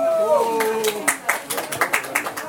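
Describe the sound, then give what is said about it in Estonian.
A voice speaks briefly, then an audience breaks into applause honouring the organizers of the 30th Väike Väin open-water swim, declared maritime deed of the year: scattered, crisp hand claps at an uneven rhythm, moderately loud, continuing to the end. “Väikse Väina avavee ujujaid, nende tegijaid, ja kuulutame aasta mereliseks teoks Väikse Väina ujumise, nii et aplaus.”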